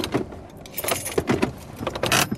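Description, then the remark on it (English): Metallic keys jangle and clink in a car ignition as the driver switches the car off at a police traffic stop in the evening, a busy rattle of small bright taps over a low engine rumble that fades out. “Get your license out, please. Switch the car off, okay?”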